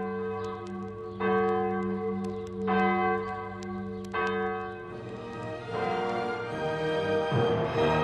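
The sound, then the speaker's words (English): Church passing bells toll for the death of Pope Pius X, on the feast day of Santa Liberata, protector saint of Siciliano, with deep, resonant strikes at a slow, steady pace, each ring overlapping the long hum of the last, growing fuller and busier toward the end. No voices are heard. “We heard the bells ring, but instead of ringing for the feast day, we heard the passing bells because Pius X died that day.”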